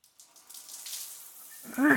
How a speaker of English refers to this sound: Now, let's take a shower together.